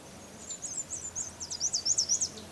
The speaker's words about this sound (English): And that bird just distinctly did two parts, and we've seen him in binoculars, so we know it's a black and white warbler. This black and white warbler flew across the trail, and I'm hoping he'll make a noise, but he may not.